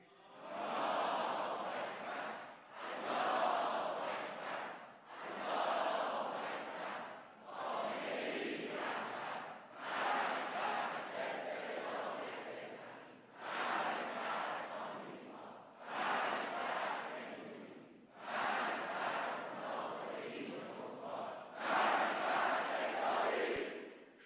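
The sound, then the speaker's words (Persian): A large crowd at a 13 Aban rally in Iran chants slogans in unison, loud repeated bursts of massed voices, each lasting a couple of seconds with brief pauses between, in a steady rallying rhythm. “صدای رعداسای ملت در 13 آبان امسال بلند شد. شنیدید؟”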